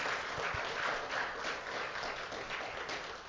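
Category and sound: crowd, audience clapping hands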